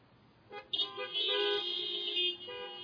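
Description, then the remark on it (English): Car horns honk together in a sustained, overlapping blare lasting about two seconds, loud, after a brief initial toot. “You can honk for this one, all right?”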